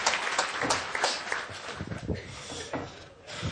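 An audience claps together, a dense, steady patter of many hands that stays fairly loud for a few seconds with no clear break.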